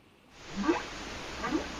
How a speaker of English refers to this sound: Hey, that sounds like a tidal wave. That sounds like a toilet. It's this humpback whale call. Okay. That makes sense.